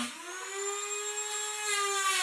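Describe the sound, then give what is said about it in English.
A power drill or saw whines steadily during a new fiber installation, its motor pitch holding high and even with a slight rise, a continuous mechanical hum with bright overtones and no voices over it. “Is that a drill or something? Sounds like sawing. It's a new installation fiber.”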